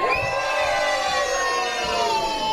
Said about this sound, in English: And then later on, we're going to need you to scream for joy. So let me hear some joy. Ready? One, two, three.